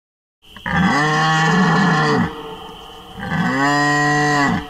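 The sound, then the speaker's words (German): Two long, deep bellowing roars from a red deer stag in the rut, each a sustained harmonic groan lasting about two seconds, loud with a brief pause between them. “Mit diesem Hirschröhren möchte ich Sie zur heutigen Klangkunstsendung begrüßen.”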